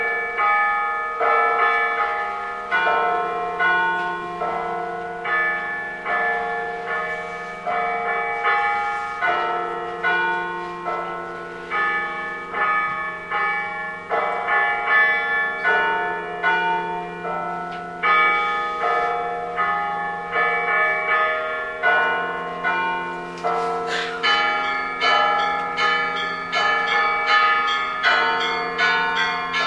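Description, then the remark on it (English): The Lenten ring of church bells at the Spaso Preobrazhensky Monastery in Yaroslav, in a steady, repeated pattern, each strike blooming into rich overlapping tones that hang and decay, loud and resonant throughout with no voices. “I want Spaso Preobrazhensky Monastery in Yaroslav. And this is their Lenten ring. Listen to its distinctive sound.”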